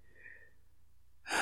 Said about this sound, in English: Relax. Listen to the sound of your breathing.